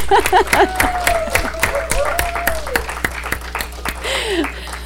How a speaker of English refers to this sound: Anyway, can we just give a clap